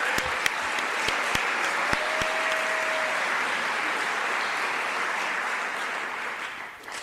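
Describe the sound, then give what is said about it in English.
A crowd applauds steadily for about seven seconds for a Library of Congress poetry program, a dense wash of clapping with a few sharp individual claps standing out early on, tapering slightly at the end. “So round of applause to this program, please.”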